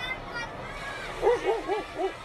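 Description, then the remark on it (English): A dog being walked in a street barks four times in a quick, even rhythm, each bark a short mid-pitched yelp, rising clearly above a steady bed of murmuring crowd noise and street hubbub. “Somebody walking their dog.”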